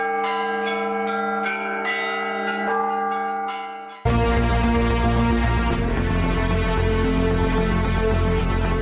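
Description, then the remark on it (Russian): Church bells of the Yeysk diocese toll a memorial funeral peal at noon in memory of those who fell in the Great Patriotic War, clear struck notes ringing out with long humming overtones, then a louder, denser clamor of several bells swells in and continues without pause. No one speaks. “В полдень скорбного дня во всех храмах и монастырях Ейской епархии звучал заупокойный колокольный звон в память о павших в годы Великой Отечественной войны.”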